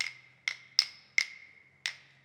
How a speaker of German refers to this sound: Unheimliche Geräusche sind aus dem Zimmer zu hören. Die Skelette klappern mit ihren Knochen.